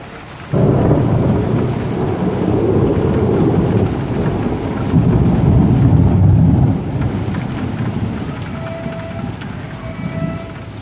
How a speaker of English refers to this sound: Thunder in Lyon.